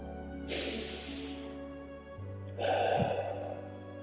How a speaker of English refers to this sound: Let us now take 3 deep breaths, breathing in through the nostrils and out through the mouth. Now breathe in and out.